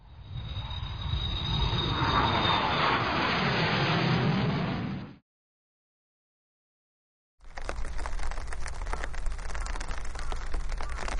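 A loud, steady roar of an airplane passing overhead for about five seconds, with a thin high whine, then silence before a hissing patter of rain begins.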